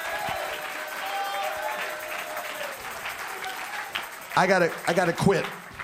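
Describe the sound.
A church audience claps steadily throughout, a dense wash of many hands, with loud voices cheering and calling out over the applause near the end, answering a preacher's call to clap for the message of the resurrection.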